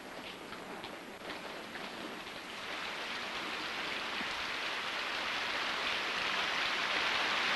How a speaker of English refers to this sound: As Selena looks up, raindrops begin to fall.